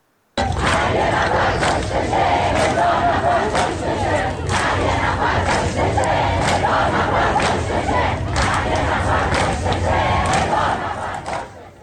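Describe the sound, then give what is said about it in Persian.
A large crowd of mourners at a burial ceremony chants anti-government slogans in unison, loud and steady throughout, with rhythmic bursts of shouting voices rising and falling over a dense wash of crowd noise. “یکی از شعارهای حاضران در این مراسم رو بشنوید.”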